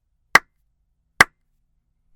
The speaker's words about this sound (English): I'll go ahead and give those 3 claps now.